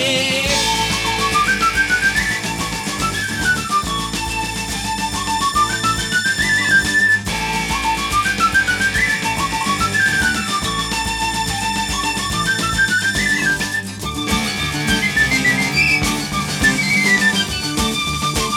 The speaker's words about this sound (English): So come on, I'm a whistler. I have a pipe and a drum to play. Get ready for the whistler. I whistle along on the seventh day. Whistle along on the seventh day.